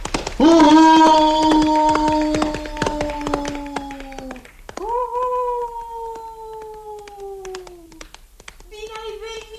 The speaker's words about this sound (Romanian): Să bagem-să de seamă că în cenușa din vatra castelului stă de veghe un motan cu 7 capete care e robit tatălui meu. Când urlă motanul dintr-un cap, se aude cale de o zi, iar când urlă din toate 7, se aude cale de 7 zile.